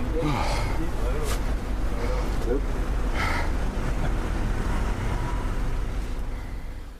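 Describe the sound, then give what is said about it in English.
Inside a moving tiny green bus on a two-day City Mapper trial: a steady, heavy low engine rumble and road drone fill the whole stretch, with a few brief breathy sounds and faint murmurs rising above it. “I got on the bus in the end.”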